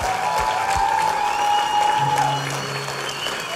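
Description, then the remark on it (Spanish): A crowd applauds the Lord steadily, a dense wash of clapping that holds at an even, loud level throughout, with a faint sustained tone and a low hum running beneath it. “Podemos dar un fuerte aplauso al Señor.”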